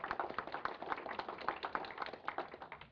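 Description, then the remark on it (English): A crowd claps steadily throughout at an event with speakers, giving a round of applause for people who worked behind the scenes; a dense patter of many hands blending into continuous applause at moderate volume with no voices over it. “And another round of applause”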